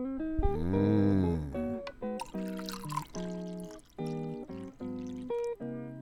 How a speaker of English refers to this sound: And then you take some hot chocolate, which I have prepared, and you pour it in on top.